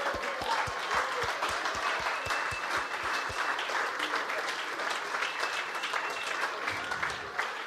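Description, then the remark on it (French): An audience applauds steadily, a dense wash of many hands clapping, with a few sharp rhythmic claps standing out in unison during the first few seconds before the applause continues evenly. “OK, est-ce qu'on peut célébrer ensemble? On applaudit.”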